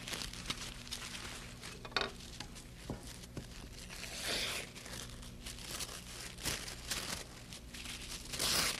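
tissue paper crinkling

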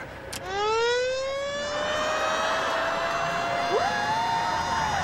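fire truck siren

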